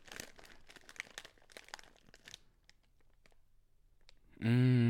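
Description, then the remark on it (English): Crisp crunching of potato chips, a quick run of bites with crackly bursts that thin out into scattered clicks, before a loud harmonic tone cuts in at the end. “Do you want me to do a better crunch? Okay, guess the flavor by the crunch.”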